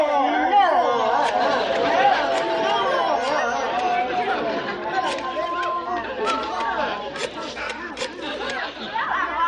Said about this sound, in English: Okay, you guys stand back and make a little noise like there's a crowd in the room.